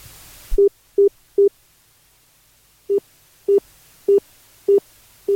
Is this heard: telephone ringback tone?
yes